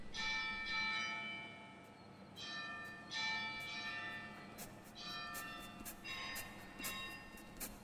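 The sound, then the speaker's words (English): Church bells ring out in a series of repeated strikes, each toll leaving a long, shimmering hum that overlaps the next, over a low background rumble. “I want to hear one of the songs in which we hear church bells and children.”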